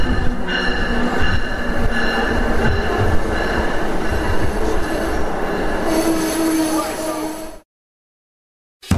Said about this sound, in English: Welcome to all those traveling on Amtrak Keystone Service Train 600.